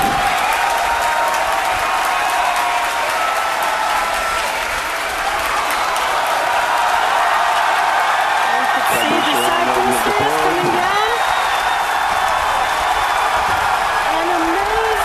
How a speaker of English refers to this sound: You can hear our crowd going crazy. That's pretty cool, right?